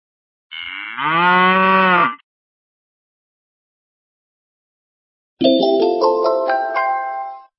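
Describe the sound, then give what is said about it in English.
A cow lets out one long, loud, droning moo, alone. After several seconds of silence, a second, brighter sound with stepped, rising tones follows. “Pigs oink and cows moo.”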